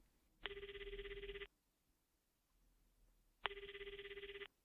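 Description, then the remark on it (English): A cell phone rings in two bursts, each about a second long with a rapid trilling pulse, separated by a pause. The ringing is loud, with no voices present. “That night, Lee's cell phone rang.”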